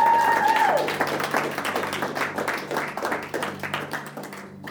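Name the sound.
audience applause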